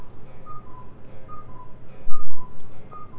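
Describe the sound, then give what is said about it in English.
A cuckoo clock calls nine times, a steady series of two-note cuckoos, each a higher tone falling to a lower one, repeating about once a second over a low background hum. “There goes the cuckoo.”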